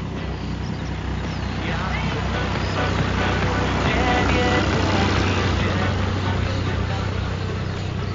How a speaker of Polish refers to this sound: Za nami jedzie traktor. To bardzo dziwne, bo tą trasą bardzo rzadko jeździ cokolwiek.